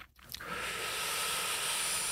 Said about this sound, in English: Now purge your breath by sipping it in through your lips